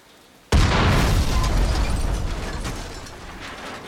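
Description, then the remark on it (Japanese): A sudden loud blast erupts after a brief quiet moment, followed by a dense, roaring wash of gunfire and explosive noise that slowly fades over the next few seconds. No one speaks. “銃声、炸裂音、怒号、鋼鉄が弾かれる甲高い音、窓ガラスの割れる音が重なり、わずかな風が吹き込んだ。”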